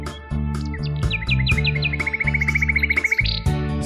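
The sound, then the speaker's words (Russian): A nightingale sings over steady musical accompaniment: a few bright descending chirps, then a fast, even trill of rapid repeated notes, clear, ending in a higher flourish. “Заводит песню звонкую влюбленный соловей своей любимой пташечке. Он посвящает трель.”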